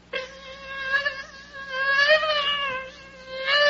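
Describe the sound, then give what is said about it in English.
A person imitates a mosquito with a steady, nasal, high-pitched buzzing whine that wavers slightly in pitch, held continuously for a few seconds and swelling louder toward the end. “The mosquito before and after lunch.”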